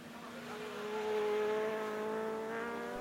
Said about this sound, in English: Wow, motorcycles. Lots of them. And they're all pulling in the driveway.